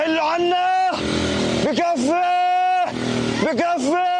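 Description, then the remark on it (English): Congested traffic of cars and motorbikes carrying Palestinians fleeing Gaza City along a coastal road during an Israeli ground offensive, several horns blaring in long sustained blasts over a steady, loud rumble of engines. “Palestinians trying to flee the area clogging a coastal road.”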